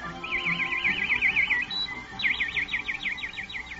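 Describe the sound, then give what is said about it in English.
A nightingale sings two bursts of rapid, repeated whistling notes, each a quick rhythmic trill, clear over faint low background noise. “But most people thought the most beautiful thing of all was the song of the nightingale, which sounded like this.”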